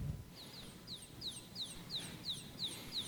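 A baby chick peeps repeatedly in high, thin chirps, about two per second in a steady rhythm, clear over a low background rumble with no talking.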